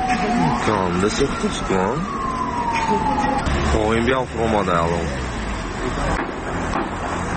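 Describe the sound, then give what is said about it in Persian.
Fire engine sirens wail with rising and falling tones at a fire in a two-storey building housing a beauty centre in Panjakent, Tajikistan, at 8 a.m. on 6 December, with voices talking and shouting throughout and steady background rumble. “کاربران با ارسال نوار لحظه سوختار به رادیو آزادی گفتند که ماشین های آتش نشانی به محل سوختار دیر رسیدند و سری وقت آن را خاموش کردن نتوانستند.”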